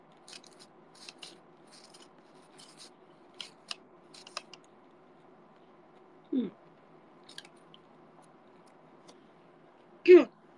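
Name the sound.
chewing food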